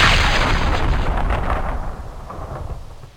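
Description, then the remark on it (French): A massive gasworks explosion, like the one of 24 August 1909, roars with a deep, thundering rumble that fills the air, then slowly dies away over a few seconds. No voices accompany it. “L'explosion du 24 août 1909 fait 13 morts et une douzaine de blessés graves.”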